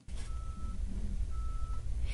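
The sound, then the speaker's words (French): A muffled, distant truck rumble, made to sound as it would on Mars in the open air, a steady low-pitched drone that sounds dull and far off, with a faint thin tone drifting in and out above it. “Mais alors, voilà, vraiment loin. Tout est plus étouffé.”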